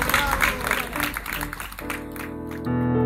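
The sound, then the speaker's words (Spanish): A burst of clapping and applause fills the first couple of seconds, a dense crackling patter, then fades as steady musical tones take over and continue to the end. “Un aplauso. ¡Bravo!”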